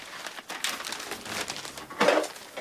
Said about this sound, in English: gets up and goes over to the table to pick up the paper she's brought in.